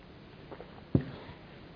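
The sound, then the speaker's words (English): A speaker takes a quiet sip of water with a single soft gulp partway through, against a faint hush and no talking. “sorry, I've got to have a drink of water.”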